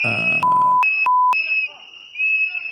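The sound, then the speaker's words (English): Shrill, piercing whistles blow almost continuously, a high steady tone joined by a lower whistle in short bursts, loud, cut by a few sharp clicks. From a video of an ICE shooting. “The annoying whistles going off, of course.”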